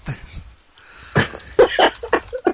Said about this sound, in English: There's the dog.